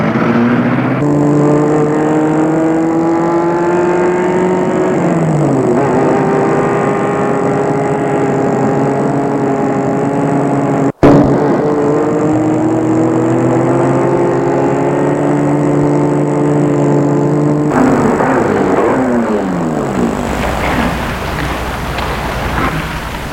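car driving

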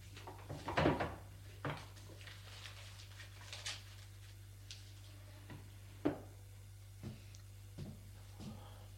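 drawer being opened

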